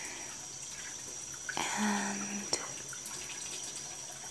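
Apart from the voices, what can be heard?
shower water running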